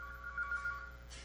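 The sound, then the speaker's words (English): A phone rings with a short burst of trilling electronic tones pulsing in quick succession, not loud, with a faint background hiss and no talking. “turn off your phone before you start”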